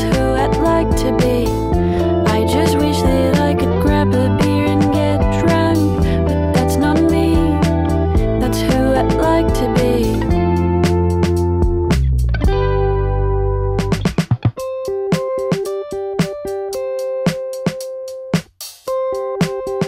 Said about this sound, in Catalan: Now I just want you to listen to this song and breathe.